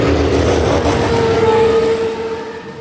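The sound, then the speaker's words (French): A car roars by at speed on a highway, a loud rushing engine with a rising whine that peaks and then starts to fade as it pulls away. “Imagine, plus vite qu'une voiture sur l'autoroute.”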